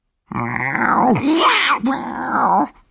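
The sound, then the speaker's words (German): A loud, drawn-out cat meow with a wavering, whiny pitch that bends up and down across a few connected swells before trailing off, heard alone without any talking. “Und kaum hatte sie das gesagt, da war ein lautes Miau zu hören.”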